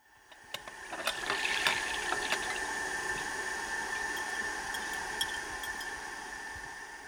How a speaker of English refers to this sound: Then I hear pots and pans clinking and the tap running.